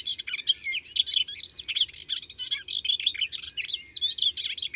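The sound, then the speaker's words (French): A Hippolais warbler pours out a fast, continuous torrent of chattering song, melodious yet scratchy, with quick call notes mixed in that imitate sparrows, redstarts, swallows, blackbirds or starlings, clear over faint low background noise. “Et après ce prélude d'imitation, l'Hippolaïs se lance dans un bavardage hyper rapide, mélodieux mais grinçant, un torrent de notes précipitées à toute allure.”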